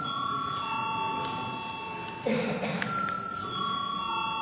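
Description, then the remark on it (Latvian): A sustained electric bell rings steadily to call deputies to vote on a bill in its third reading, its bright tones holding over low room murmur, with a brief louder clatter midway. “Lūdzu zvanu.”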